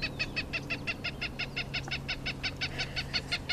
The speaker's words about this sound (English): Something that can be a bit problematic, especially when she demonstrates by playing the call of a Cooper's hawk.